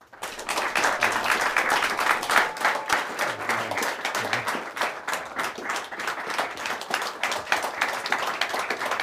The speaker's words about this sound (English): But first, I'd like to thank our in-studio audience of Illinois voters who are with us this evening. Our audience has agreed to refrain from applause or audible reactions during the debate, except for right now when we welcome our candidates.